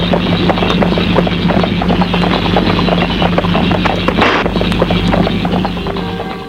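Steady clip-clop of a horse's hooves as a man sets off on it, a rapid rhythmic patter of hoof strikes over a continuous low rumble, fairly loud, with no one speaking.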